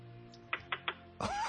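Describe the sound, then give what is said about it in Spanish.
Three quick, light taps of a blue Bic ballpoint pen against a computer screen, evenly spaced, followed by a louder, brief burst of rustling noise. “Te voy a decir qué tipo de pantalla es. Dale así toquecitos. Un poquito más fuerte.”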